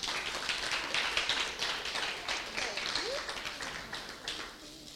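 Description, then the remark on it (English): A small group claps steadily for several seconds for contestants receiving prizes, a dense patter of hands that holds at an even level throughout, with a faint voice briefly audible beneath it. “Let's give them a clap.”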